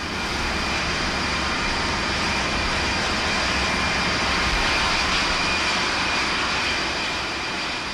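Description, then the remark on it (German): A dense, continuous roar of about 80 jet aircraft engines running up together on the deck of the aircraft carrier Forrestal, loud and steady with a broad hissing whine throughout, no speech. “Etwa 80 Düsenmaschinen lassen zur gleichen Zeit ihre Aggregate einlaufen.”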